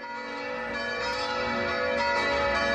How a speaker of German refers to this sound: In Bergisch Gladbach läuten täglich um 18 Uhr 5 Minuten lang die Glocken der Heiliggeistkirche. Eine Geste der Solidarität einer ganz normalen evangelischen Gemeinde.